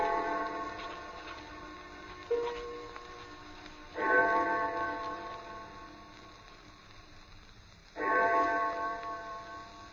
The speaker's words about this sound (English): I had no idea how long I worked until I heard the clock of St. Jude's in the distance. It was 4 o'clock,